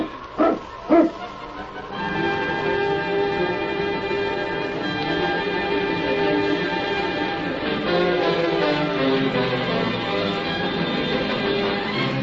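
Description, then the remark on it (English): Two quick, sharp barks from a Mounties' sled dog team led by the husky King ring out near the start, followed by a steady, bright ringing and jingling texture that carries on to the end. “Get the dogs up, King. On, King! On, you husky!”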